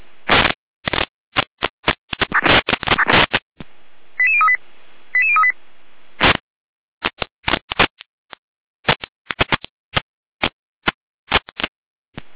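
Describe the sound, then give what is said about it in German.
Fire dispatch radio alerting tones in Germany, calling out volunteer fire brigades of Heberndorf and Wurzbach to a triggered fire alarm system at a factory in Heberndorf: a rapid, irregular string of loud, harsh electronic bursts, broken midway by two short beeping tone sequences, then more choppy data-like blips. No one speaks. “Leitstück Gereinde mit Alarmierung.”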